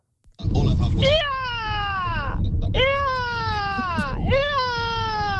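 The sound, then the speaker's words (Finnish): A voice imitates an eagle's cry as an entry in a bird-call imitation contest, with three long, loud, high-pitched screeches, each sliding downward in pitch, over a steady low background rumble. “Siin on perkele Kotka.”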